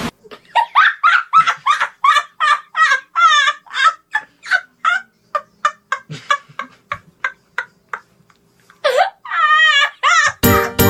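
A rapid, steady series of high, bright chick peeps, loud, followed by a couple of longer wavering cheeps and a short burst of noise at the very end.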